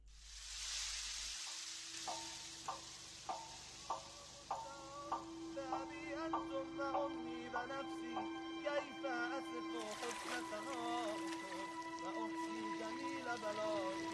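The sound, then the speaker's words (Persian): Steady hissing rainfall, heard clearly on its own for a moment before melodic tones and a singing or chanting voice rise over it, the patter continuing softly underneath. “ترنم باران را بشنوید در این لحظه.”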